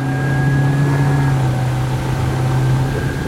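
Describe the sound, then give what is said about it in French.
A boat's engines, started up to head for the Grand Rouveau lighthouse area in the archipel des Zambiers, run at a steady, loud drone with a low hum and faint higher whine, continuous throughout with no voices. “Et donc, on s'habille, on s'équipe, on met les moteurs en marche, et un appareil à 6 pour nous diriger vers cette zone supposée, là où il y a le fameux phare.”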